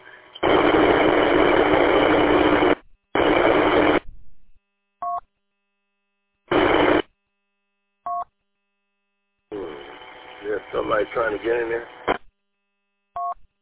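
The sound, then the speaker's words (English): Loud bursts of radio static hiss on and off, a long one then shorter ones, separated by short electronic beeps, followed by a garbled voice coming over the radio. The transmitter stays keyed up after the speaker finishes talking, giving only static. “After I get done talking, it's keyed up and it's all static.”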